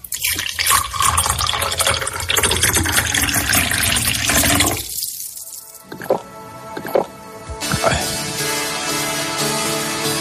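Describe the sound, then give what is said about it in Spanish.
Water pours steadily into a glass on a hot day with a loud rushing splash, then slows to a few trickles and drips as the glass fills. Nobody speaks. “Bueno, y es que con este calor, un vasito de agua siempre sienta bien.”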